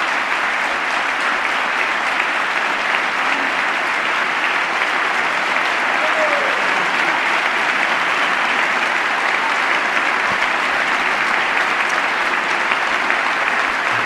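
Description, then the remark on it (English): Sustained applause from lawmakers in a legislative chamber, clapping for a line about putting the nation's interests before party: a dense, steady roar of many hands clapping at an even loudness without letting up. “And they all clap up like, yes, give ourselves a hand”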